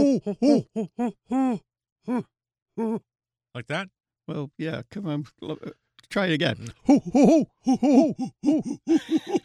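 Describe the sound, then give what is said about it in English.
A person imitates a great horned owl with a series of low, rounded vocal hoots, followed by several people talking and laughing together. “Yeah, the great horned owl has a call that goes like this. Hoo, hoo, hoo.”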